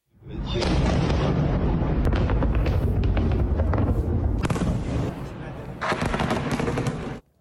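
Loud, rumbling explosions from missile strikes, a dense roar broken by sharp cracking bursts, easing briefly near the end before a final surge of blasts cuts off.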